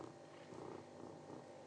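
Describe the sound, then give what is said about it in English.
A cat named Simba purrs steadily, a big, continuous low rumbling with a gentle pulsing rhythm, fairly quiet and with no voices over it. “You're gonna purr instead, are you, today?”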